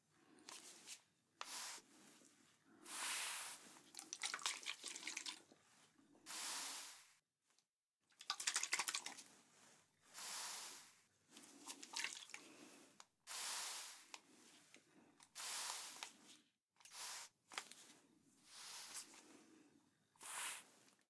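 Water is poured and splashed onto a wound to clean it after a bullet is removed, in a series of hissing, spattering bursts separated by brief pauses, with wet dripping in between and no voices.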